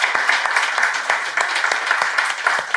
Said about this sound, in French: Ouais, on peut l'applaudir déjà.